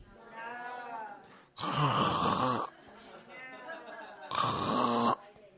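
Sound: voice imitating snoring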